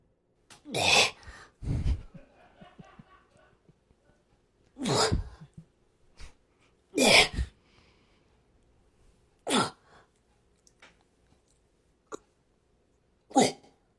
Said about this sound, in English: Did you hear the fart?